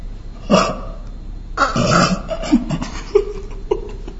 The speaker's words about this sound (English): It's the wolf.